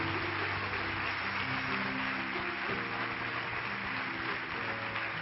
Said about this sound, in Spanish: Vamos a darle un fuerte aplauso al Señor Jesús. Amén.